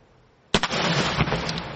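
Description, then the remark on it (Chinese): After a brief quiet moment, a firework bursts suddenly and loudly, followed by a sustained roaring crackle with a few sharper pops mixed in. No one speaks. The fireworks are set off by the US Consumer Product Safety Commission on a Wednesday to show their destructive power and potential for injury, ahead of July 4 Independence Day. “每年的7月4日是美国的独立日，为了准备庆祝活动，美国消费品安全委员会星期三演示了烟花造成的破坏力以及造成人员伤亡的潜在的可能性。”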